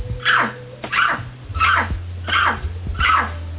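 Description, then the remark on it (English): A person imitates a big dog barking, giving five deep, forceful woofs in a steady rhythm with brief pauses between them, over a low, constant hum. “Bark like a dog.”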